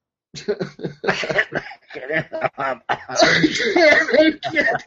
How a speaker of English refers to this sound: Plus, you're under the weather, so it's never fun. I know. Coughing up a lung. And everything. No, that's the kind of cough when you call into work.